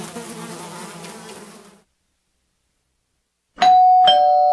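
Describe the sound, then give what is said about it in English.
A doorbell rings with two bright, loud chime tones in quick succession, following a steady insect-like buzz and a brief silence. “Will somebody get the door?”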